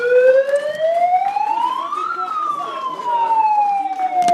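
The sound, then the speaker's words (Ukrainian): A loud siren wails, its pitch climbing steadily for about two seconds and then slowly sliding back down, with scattered crowd noise and voices underneath, as supporters of activist Serhiy Sternenko greet him outside the SBU main directorate building in Kyiv. “Звуком сирени та оплесками прихильники активіста Сергія Стерненка зустрічають його під будівлею головного управління СБУ в Києві та Київській області.”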